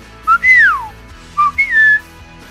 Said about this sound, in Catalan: Un d'ells és l'oriol. El mascle té uns colors cridaners, groc i negre, i el bec vermell, i un cant aflautat molt particular.